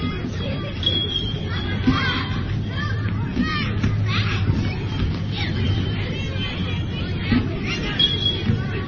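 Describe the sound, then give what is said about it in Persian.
A crowd of young voices from the local Basafa school's children, brought to visit an advanced laboratory, chatters at once, a steady overlapping hubbub with no single speaker standing out, at a constant moderate level throughout. “اینم از بچه‌های مدرسه؟”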